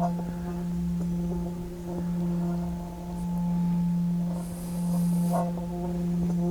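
A meditation bell rings in a long, steady low hum with bright overtones, its volume gently swelling and ebbing in slow waves for the whole stretch, with no new strike.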